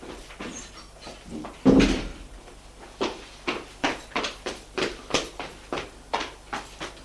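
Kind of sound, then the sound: household object, apartment door closing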